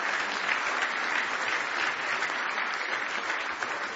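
A crowd applauds steadily in a hand clap of praise to the Lord, many hands clapping at once in a dense, continuous wash of sound that holds at an even, fairly loud level throughout, with no voices standing out.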